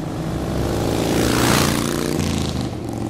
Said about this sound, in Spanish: El ruido que hizo la moto fue lo que nos despertó.